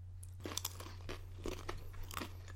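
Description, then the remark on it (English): Someone crunches on Even Thinner Wheat Thins crackers topped with cheese, a string of irregular crisp bites and chews, fairly quiet, over a steady low hum with no talking. “the even thinner gives it a nice crunch without overwhelming the flavor of the cheese”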